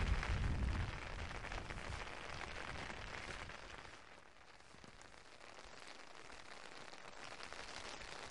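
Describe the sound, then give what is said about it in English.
Steady rain patters densely on an umbrella held overhead on open moorland, a continuous hissing crackle that is loudest in the first second and then settles to an even downpour, with no voices. “I imagine on an August day, which is maybe a little bit brighter than this, this landscape, instead of echoing with the sound of rain hitting my umbrella or the odd curlew or grouse call, echoes with the sound of gunshots.”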